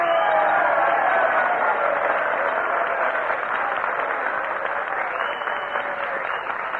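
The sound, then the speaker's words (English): Steady, dense audience applause carries on for several seconds, a loud wash of many hands clapping with a faint murmur of voices underneath, easing slightly toward the end, as the audience encourages Jack Benny to come up and play a violin solo. “I'm sure that with a little encouragement and applause, we can get Jack Benny to come up here...”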